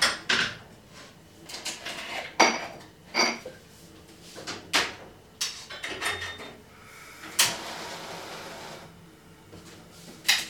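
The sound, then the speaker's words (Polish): A pan is handled on a stovetop while chicken breast coated in instant-noodle seasoning is fried, with a series of sharp metallic knocks, clatters and light scrapes at irregular intervals, fairly loud, with no talking. “I teraz przenosimy się na kuchenkę, gdzie będziemy smażyć właśnie pierś z kurczaka obtoczoną w przyprawach z zupek chińskich.”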